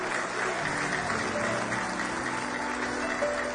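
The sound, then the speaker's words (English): A large crowd claps steadily and continuously at a church service, giving a hand clap of praise, a dense wash of applause, with faint sustained musical tones underneath. “Give him one more hand clap of praise this morning.”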